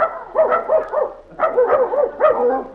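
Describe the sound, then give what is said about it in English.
Several dogs bark and yap together at a dog pound in a rapid, overlapping chorus, loud, with short yelping calls repeating in bursts and no voices. “Well, Judy and Randolph are at the dog pound, picking out a new mascot for the baseball team.”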